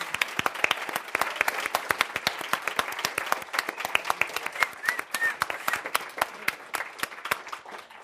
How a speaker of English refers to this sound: So I think this would be a good time again for everybody to a big round of applause I for agree. Everyone who's making this possible.